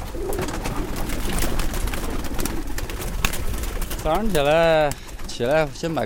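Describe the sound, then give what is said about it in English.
A keeper's pigeons, released in the morning from a small cage on the tin roof of a brick home, coo in two warbling, wavering bursts near the end, following several seconds of steady rustling background noise. “When I wake up every morning, the first thing I do is release my pigeons.”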